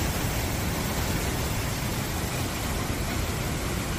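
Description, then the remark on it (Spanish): A steady, dense roar of river water rushing down with great force after storm rains, loud, with no pauses or voices over it. “Es el sonido del agua bajando con muchísima fuerza por los ríos.”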